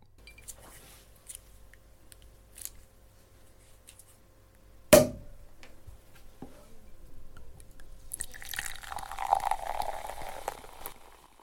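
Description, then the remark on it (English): A 19 to 20 ounce bomber bottle is opened with a single sharp pop, then after a short pause comes a steady fizzing pour that lasts several seconds, with no talking. “Okay, let's open it up.”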